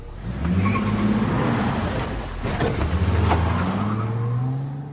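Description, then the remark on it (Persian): An old car's engine hums and revs steadily as the vehicle drives along a road, its low rumble shifting in pitch with gear changes and some rattling road noise. “آره کلا ماشین آشغالیه.”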